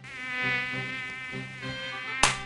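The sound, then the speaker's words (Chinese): A mosquito whines with a steady, thin, high-pitched buzz that lasts throughout, ending in a sudden sharp slap near the end; hot weather with many mosquitoes about. “天哪，最近天气变好热，蚊子也变很多，一不手脚就被蚊子咬了。”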